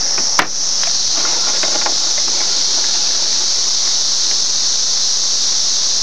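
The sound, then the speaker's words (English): A dense swarm of cicadas buzzes loudly in a steady, shrill, unbroken drone that never lets up, with a single brief click near the start and no voices, on a bright, sunny day with a few clouds and a little breeze. “The cicadas are swarming quite a bit.”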